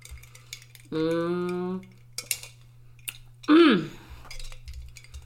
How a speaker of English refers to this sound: Listen, let me take a sip.